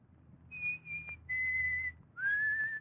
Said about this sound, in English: Don't be always whistling when I'm trying to write.